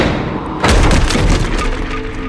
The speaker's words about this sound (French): Les deux hommes défoncent alors la porte d'entrée.